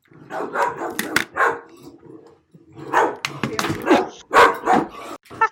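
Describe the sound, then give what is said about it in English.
A dog barks loudly and frantically, a rapid string of sharp barks and yips in two bursts separated by a brief pause, as someone in the house gets out of the shower. “It's like Cujo.”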